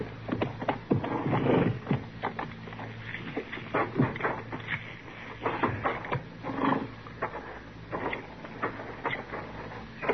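Horses' hooves clip-clop in an uneven stream of sharp knocks, moderately loud, over a low steady rumble, with no one talking.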